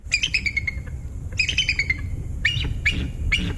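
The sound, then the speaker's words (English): A bald eagle's high, thin chittering call: two quick descending runs of piping notes, then three sharper squeaky cries, over a low steady rumble with no one speaking. “Coming up, have you ever heard the sound of an American bald eagle?”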